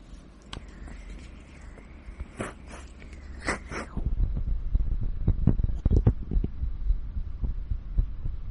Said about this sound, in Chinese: 在左胸第三根肋骨一寸的地方引起了心跳的震动。那你可以选择躺在我怀里感受一下。